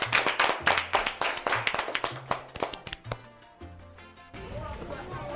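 A short burst of applause on the Radio Sei Forte programme, introducing the season's first interview, with sharp claps in a quick, fairly steady rhythm over a low background tone. The clapping thins out after about three seconds as a sustained tonal sound takes over.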